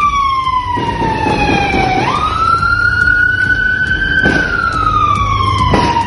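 A police patrol car siren wails loudly and continuously as the car approaches the scene of a shootout, its pitch sliding down then sweeping back up, with steady traffic rumble underneath and brief sharp bursts of high-powered gunfire near the end.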